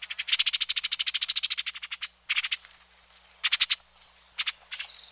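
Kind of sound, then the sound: bird, orchard oriole calls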